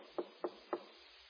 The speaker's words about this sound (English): And then there's a knock on the door.